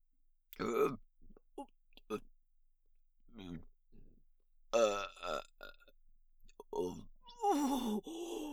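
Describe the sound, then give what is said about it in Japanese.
Several loud burps, each a throaty croaking rumble, separated by quiet gaps with soft breathy vocal sounds, the last burp the longest and roughest. “熱いザーメンガスがお腹の中を登ってきて、下品なゲップ出してしまいました。”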